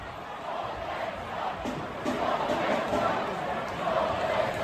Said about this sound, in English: It turns out the Coyotes wrapped up their season last night, and the crowd went wild, not only for the Coyotes, but for their hate of Salt Lake City. Let's listen.